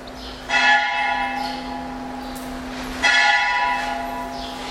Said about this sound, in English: And similarly, we love to chant, we love to dance, we love music, we love bells. So many bells going in this world. Every morning people have their alarm clocks with bells ringing.